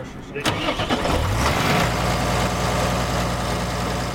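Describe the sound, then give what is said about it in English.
A tractor engine on a ranch, being seen to in the field by a mobile repair technician, cranks for about a second, catches, and settles into a steady, low, rumbling idle, loud and continuous until the end. The ranch is over 100 miles from Billings and 70 miles from Sheridan. “here to see to a couple of tractors, not all the way broken, but not quite right.”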